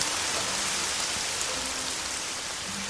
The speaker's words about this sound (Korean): 비가 많이 와. 주룩주룩? 비가 주룩주룩 와.